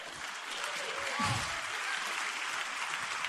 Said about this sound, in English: You're clapping too soon, because the NCAA did not see it that way.